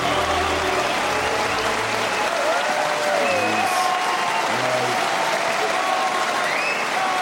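Steady, dense applause from an audience fills the whole stretch, loud and continuous, with a few faint murmurs and brief tonal snatches underneath the clapping.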